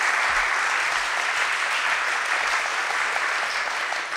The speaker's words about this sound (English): Another round of applause for our second place winner